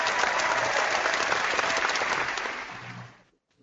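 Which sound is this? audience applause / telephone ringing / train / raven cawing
audience applause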